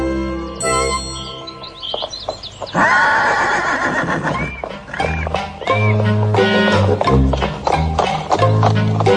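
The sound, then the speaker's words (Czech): A horse being ridden neighs loudly near the start, followed by a steady rhythmic clip-clop of hooves with light jingling, all set against full, busy music that plays throughout. “Je to jízda na tom koni, kosti země vytřepá.”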